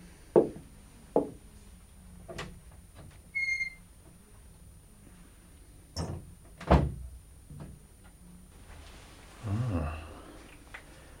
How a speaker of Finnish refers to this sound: Nyt ei Jofriitur enää iske ovea kiinni. Se ei ole hyvä merkki. Se meni ihan hienotunteisesti ulos.